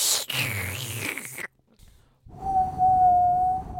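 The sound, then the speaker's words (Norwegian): A person whistles a single steady, clear note held for over a second, fairly loud, after a burst of wet, breathy spluttering of saliva and a brief pause. “Nå skal jeg plystre”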